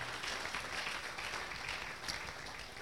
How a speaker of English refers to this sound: Come on, clap your hands.